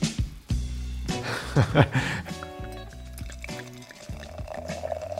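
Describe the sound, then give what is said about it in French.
Sparkling wine from the first bottle of a blind tasting is poured into a glass with a steady liquid splash, a brief fizzing hiss beneath it, while a voice murmurs faintly in the background. “Déjà, ça pétille. Alors, c'est un vin qui a une petite singularité.”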